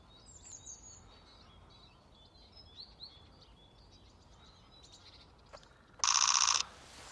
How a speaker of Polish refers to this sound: Gęsi zbożowo-tundrowe lecą. O, ciach.